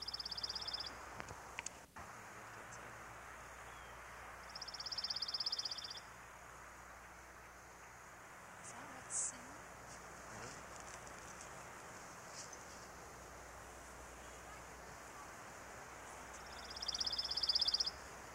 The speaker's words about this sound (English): Pine warbler's gentle trill is a familiar sound of our pine forests.